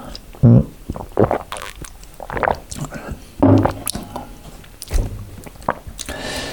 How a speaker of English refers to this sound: Let me first drink a swift gulp of water.